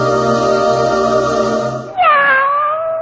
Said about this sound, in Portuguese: Ao longo de 47 anos, os ouvintes se acostumaram a acordar com o miado do gato e a voz de José Paulo de Andrade.